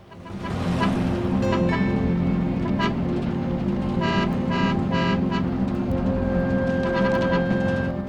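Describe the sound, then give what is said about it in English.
A car engine rumbles steadily as a car moves up behind a pickup truck, with several short horn toots from the impatient driver sounding in a quick cluster midway through and a sustained tone toward the end. “A car moves up behind the pickup truck.”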